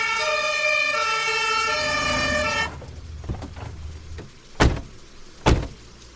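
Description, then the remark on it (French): A loud fire engine siren of firefighters called by a neighbor on a November evening blares steadily for a couple of seconds, then cuts off abruptly, followed by two sharp thuds like vehicle doors slamming. No one speaks. “Il appelle les pompiers.”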